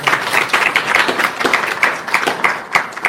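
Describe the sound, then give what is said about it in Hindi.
A crowd breaks into steady applause, many hands clapping in a dense, continuous patter for a few seconds, loud and bright with no talking over it. “तालियां बजाओ सब इनके लिए।”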